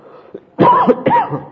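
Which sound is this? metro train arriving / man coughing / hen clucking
man coughing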